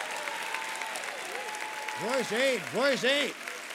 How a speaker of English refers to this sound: May all the children of God put your Bible down and begin to clap.